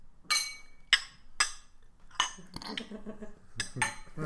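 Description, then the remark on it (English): Glasses clink together in a toast, about six bright, ringing taps at an uneven pace, fairly loud, with a brief jumble of softer clatter between them. “Cheers. Cheers. Cheers.”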